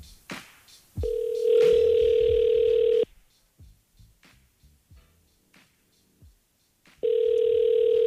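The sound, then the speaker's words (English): A telephone rings down the line as a radio show, the Biggs and Bar Show, calls a Secret Sack contest winner: two long, steady, mid-pitched ringback tones about two seconds each, separated by a pause with only faint clicks and rustles, the second tone cut off at the end. “Is when a live phone is ringing.”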